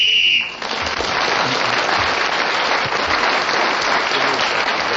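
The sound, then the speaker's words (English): A short, steady, high-pitched whistle blast sounds for about half a second, ending a speaker's turn as Clement Freud was speaking and closing the round, then loud, sustained applause breaks out and continues to the end. “So Clement Freud was then speaking when the whistle went, gained that extra point.”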